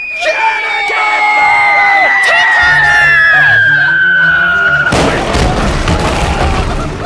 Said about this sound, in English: Quiet! Did you hear that? It sounded like an explosion.